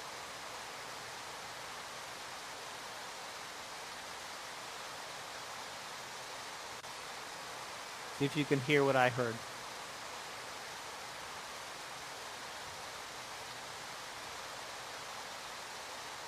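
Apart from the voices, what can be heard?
waterfall rushing water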